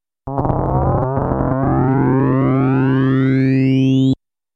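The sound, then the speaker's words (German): A steady, buzzy synthesizer tone using a sawtooth wave as the modulated carrier, rich in harmonics, with a cluster of overtones sweeping gradually upward over about four seconds, giving a bright, shifting metallic character before it cuts off abruptly. “Wenn ich nun einen Sägezahn als Carrier benutze, klingt das ganz anders.”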